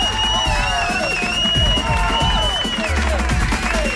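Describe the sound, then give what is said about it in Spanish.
A crowd breaks into strong, sustained applause, a dense wash of clapping mixed with cheers and whistles, holding steady and loud for about four seconds, welcoming journalist Carlos Enrique Bayo as a guest. “Rebem amb un fort aplaudiment el flamant ministre de clavegueres de l'Estat de Gràcia, Carlos Enrique Bayo.”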